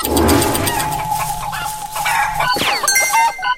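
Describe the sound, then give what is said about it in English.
Cartoonish video game chicken clucks over busy background game audio, with a bright, descending, zapping effect near the end as the player kills the frozen chicken by stepping on it. No one speaks. “Yes, I just killed the chicken.”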